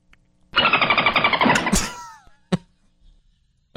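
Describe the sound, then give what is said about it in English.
A voice imitates a dolphin: a loud, rapid buzzing chatter of clicks for over a second, breaking into several high, downward-sliding squeaky whistles, followed by two sharp isolated clicks. “I can do... I do a great dolphin.”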